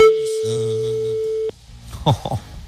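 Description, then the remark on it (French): A single steady ringback tone sounds on an outgoing phone call made live to call someone back, clear and even for about a second and a half, then cuts off as faint voices and noises follow. “et rappeler quelqu'un en direct. Peut-être ça va sonner chez vous.”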